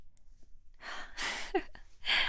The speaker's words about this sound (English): Did you guys hear that little gasp? Aww.